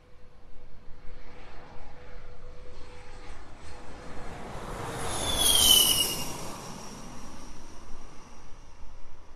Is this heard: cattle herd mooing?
no